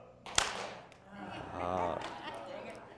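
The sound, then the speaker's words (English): An audience, on a count of one, two, three, go, claps their hands together once: a single sharp burst of many hands, a crisp crack followed by a low murmur of voices from the crowd. “And when I do, I just want you to clap your hands together.”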